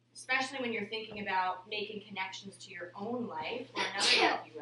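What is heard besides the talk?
sneeze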